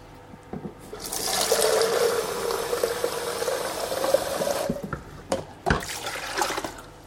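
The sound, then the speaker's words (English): Water pours out of an oven's water jug in a steady, gushing rush for about four seconds, then tapers off into a few scattered drips and clunks. No one speaks. “Take the jug out. Let's empty it.”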